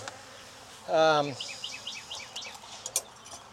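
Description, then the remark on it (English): A honeybee buzzes loudly past an open beehive for a brief moment, its drone dipping slightly in pitch as it goes, followed by soft, rapid bird chirps in the background and no talking. “Queen excluder back on, because I believe it's queen right. Lots of bees gonna be hatching out in all that brood frame you saw.”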